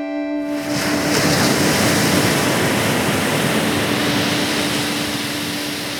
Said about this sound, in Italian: Una spiaggia sassosa e un mare rumoroso, onde che tornano e ritornano, sbattono e si ritirano.